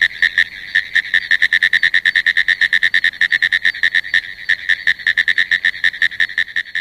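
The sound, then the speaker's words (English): A pinewoods tree frog calls in a rapid, steady series of sharp, clicking pulses, like a telegraph key tapping, loud and continuous with no voices. “The sound of the pinewoods tree frog resembles a ticker tape machine, a riveting machine, or someone tapping at a telegraph key.”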